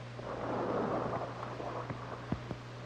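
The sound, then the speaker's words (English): Low, rolling rumble of distant explosions heard inside a cavern, a muffled roar swelling and fading with a few faint thuds toward the end, over a steady low hum. No voices. “The explosions are still being heard in the distance.”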